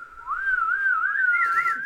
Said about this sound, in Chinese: 对、 欸，可是我不会吹口哨、欸，我就这样。